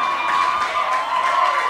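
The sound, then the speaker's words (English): An audience of women at a show in Montreal screams and cheers in a sustained, high-pitched roar that stays loud and steady throughout, with shrill voices layered over one another and no clear speech. “There are so many women screaming.”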